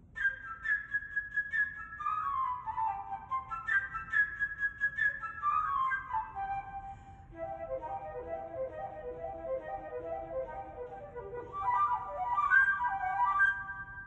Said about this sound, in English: Each character is represented by a different instrument of the orchestra. The bird by the flute.